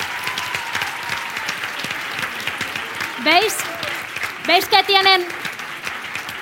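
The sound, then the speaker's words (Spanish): A crowd at an event applauds the volunteers steadily, a dense crackling wash of clapping that holds at an even level throughout, with a man's voice briefly speaking over it near the end. “Y ahora quiero pedir, un momento, que suban todos los voluntarios, por favor, aquí, que han hecho posible, que están haciendo posible que esto ocurra hoy, por favor, un fuerte aplauso.”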